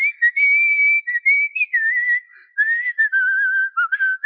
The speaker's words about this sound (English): we were sitting there, and I was whistling a song we had been working on in choir